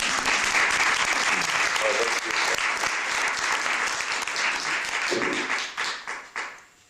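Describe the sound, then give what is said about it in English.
A crowd applauds, a dense steady wash of many hands clapping that holds strong for several seconds, then tapers off and fades out near the end. “You can all applaud.”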